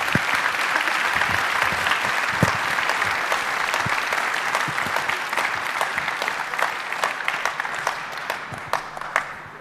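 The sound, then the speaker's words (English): An audience applauding steadily at the close of a question session after a talk on quantum mechanics, dense overlapping claps sustained at an even level for several seconds without any talking. “Well then, I think we're closing this and have a nice applause again”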